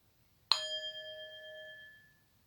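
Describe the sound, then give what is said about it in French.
A single meditation bell is struck once during a guided meditation to greet fellow practitioners, ringing out clearly with a bright metallic tone that lingers and slowly fades over about two seconds in an otherwise quiet space. “vous propose ensuite de vous tourner peut-être vers votre écran, vers votre téléphone, peut-être vers une fenêtre, pour saluer aussi au prochain son de cloche les amis de pratique et toutes les personnes qui ont pratiqué cette méditation avec vous.”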